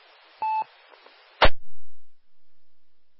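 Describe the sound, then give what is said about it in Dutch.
A short electronic phone beep, a steady tone lasting a fraction of a second, followed by a sharp click or thump, then silence. No one speaks. “Oh, ik heb een telefoon, sorry, hè.”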